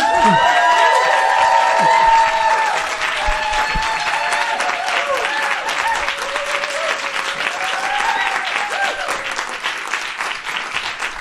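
An audience at a party applauds a guest steadily, dense clapping filling the whole stretch, with cheers and whoops over it at the start before the clapping continues evenly to the end.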